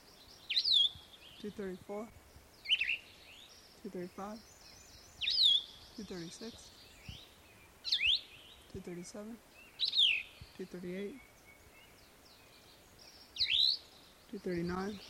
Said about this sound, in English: That's a McGilvery's Warbler in the background at the end